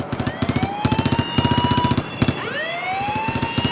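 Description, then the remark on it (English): Rapid bursts of machine-gun fire from a plane strafing a boat rattle in quick, loud repeated volleys, while a rising, wailing whine sweeps upward twice beneath them like a diving aircraft. “All shots is breaking loose up on deck! A plane strafing the boat.”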